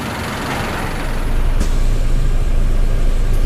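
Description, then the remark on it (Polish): A number 2 city bus in Bielsk Podlaski, Poland, rolls up with a deep engine rumble that swells partway through, and a short sharp hiss of air brakes cuts in as it pulls to a stop. “Akurat dwójka jedzie, akurat czekamy na dwójkę.”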